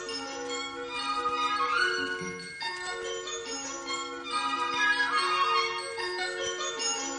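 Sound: many small bells ringing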